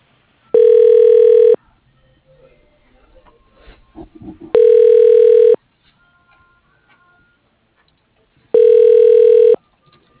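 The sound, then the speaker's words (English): Three loud, steady telephone ring tones of about a second each, evenly spaced roughly four seconds apart, as a call is transferred to extension 102, which does not answer; faint background rustling in the gaps and no talking. “Extension 102 does not answer.”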